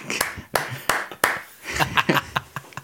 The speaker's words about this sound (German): Klatschen. So einzeln.